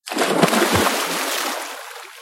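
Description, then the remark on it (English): A man's limp body, toppled from a saddle on a bridge, plunges into the water beneath with a loud, deafening splash, followed by a broad wash of churning, spraying water that slowly settles and fades over a couple of seconds. “His limp body tumbled into the water beneath. The splash was deafening.”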